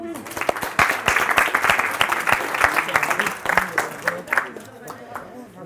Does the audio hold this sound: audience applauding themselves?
yes